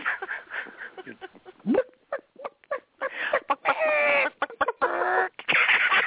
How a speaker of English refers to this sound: I got shows booked, and I got housework done, and I went out and played with the chickens.